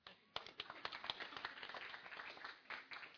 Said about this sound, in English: And you can clap when I'm done.